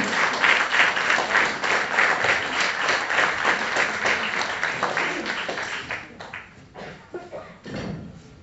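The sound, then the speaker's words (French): Sustained audience applause, a dense, steady patter of many hands clapping for about six seconds, then thinning out into scattered claps and small thumps as it dies down. “On peut l'accueillir. On peut l'applaudir.”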